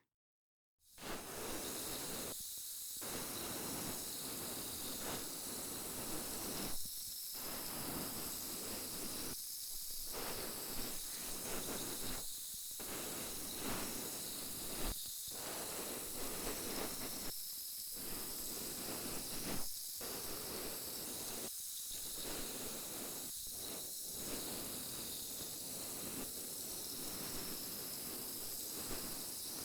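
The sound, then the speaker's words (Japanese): A steady crackling fizz of a carbonated cotton swab bubbling inside the ear as it is cleaned, continuous for the whole stretch with brief scratchy breaks and no voices. “シュワシュワって音するの不思議よね。”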